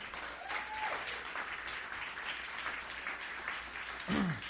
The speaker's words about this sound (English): All right, let's give God a great hand clap for tonight.